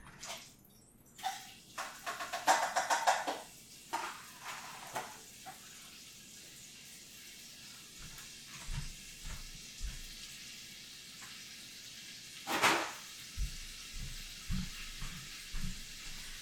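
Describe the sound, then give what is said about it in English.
Onions sizzle in a hot pan with a steady crackling hiss, a louder burst early on, then a string of soft knocks and stirring sounds over the sizzle. No one speaks. “Sounds like that is almost all melted, so I'll stick the onions in there.”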